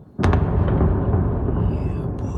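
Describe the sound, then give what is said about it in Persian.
A sudden explosion from a Russian navy missile strike on oil and military facilities in Odesa, Ukraine, on a Sunday, bursts out with a sharp crack, then gives way to a heavy, sustained low rumble that rolls on for a couple of seconds. “ساکنان اودسا یک شنبه با صدای انفجار از خواب بیدار شدند.”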